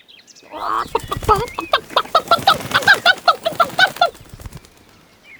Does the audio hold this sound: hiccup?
no